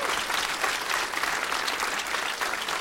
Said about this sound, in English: And let's have a round of applause for the owner of this great comedy club, the Comedy Attic.